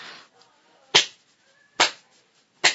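Three sharp, loud slaps of a hand against a buttock, evenly spaced less than a second apart, each a crisp smack that fades quickly against a quiet background.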